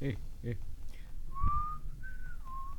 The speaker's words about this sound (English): He started whistling as he went about his business.